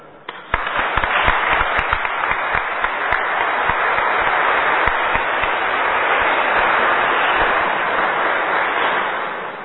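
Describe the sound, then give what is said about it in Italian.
An audience breaks into sustained applause for the construction firm that built and the architect who carried out the works, a dense wash of clapping that starts abruptly with a few sharp claps and continues steadily for several seconds before tapering slightly at the end. “Devo ringraziare tutti di cuore e credo che un applauso specialmente alla ditta che ha costruito e all'architetto che ha eseguito i lavori.”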